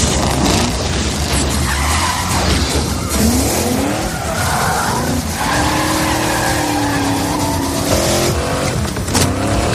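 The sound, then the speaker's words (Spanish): Loud racing car engines roar and rev continuously while tires screech and skid in long sliding squeals, a dense wall of motorsport noise with no talking, from a film trailer. “Esto es todo sudor, aceite, coches, motores y neumáticos.”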